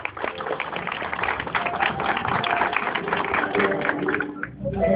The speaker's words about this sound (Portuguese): Vamos aplaudir.